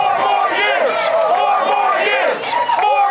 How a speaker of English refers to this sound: His supporters, the delegates in the room, set aside their social distancing restrictions to crowd the front of the stage and chant for four more years. Take a listen.